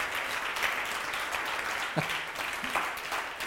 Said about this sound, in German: Geben wir ihnen einen Applaus.